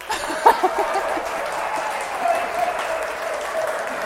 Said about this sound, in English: The guys are cheering. The women are cheering.